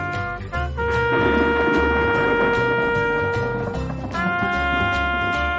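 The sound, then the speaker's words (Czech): A loud, sustained trumpet blast with a bright, brassy ring that holds steady, breaks briefly and sounds again, over a deep rumbling undertone, at Mount Sinai in a Bible story as clouds and lightning cover the mountain. No one speaks. “Lidé slyšeli hlasité troubení.”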